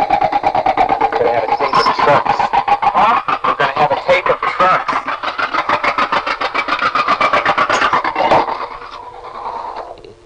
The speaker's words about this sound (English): In any event, a noisy truck is going by,